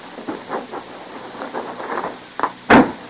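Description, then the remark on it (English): A steady wash of train noise with soft, rhythmic surges, broken near the end by a short burst and then a loud, sharp blast of hissing steam. No voices. “Well, there's your train”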